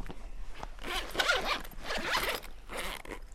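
A pencil case zipper is pulled open in a few quick, raspy strokes, fairly loud, with no voices.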